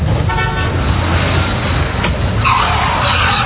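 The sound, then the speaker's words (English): A car roars past, its tires skidding and screeching across the road in a loud, continuous rush, with a brief horn-like blare near the start. “You could have been killed by that car.”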